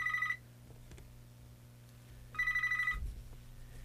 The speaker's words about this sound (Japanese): これでですね、テクノメイトの方に、電話がかかっております。